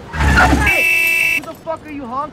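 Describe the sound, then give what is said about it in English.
A car horn honks once in a loud, steady blast lasting under a second at a person talking on the phone, after a burst of street noise; a person starts talking right after it cuts off. “Who the fuck are you honking at?”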